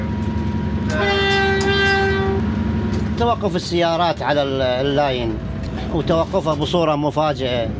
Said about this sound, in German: Mit einer ohrenbetäubenden Lautstärke zieht die tausende PS starke Diesellok die Waggons durchs irakische Hinterland